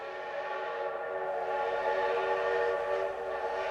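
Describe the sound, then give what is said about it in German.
A steam train's whistle blows in one long, steady, piercing tone with layered harmonics over a faint rumble of the train, with no one speaking. “Es ist die Ära des Dampfes und der Industrialisierung. Die Eisenbahn ist Hauptmotor des Fortschritts und braucht Schienen und Brücken.”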